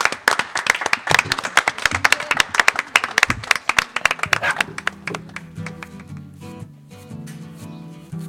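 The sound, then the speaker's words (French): An audience bursts into lively applause, dense overlapping claps for several seconds, then the clapping thins out and fades, leaving scattered claps over a soft sustained tonal background. “Hein, on applaudit.”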